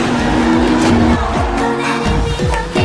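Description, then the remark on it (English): Race car engines rev hard and loud, pitch repeatedly sweeping up and dropping as the light cars on slick tires accelerate and drift through turns, a dense continuous roar with no talking. “It's called drifting.”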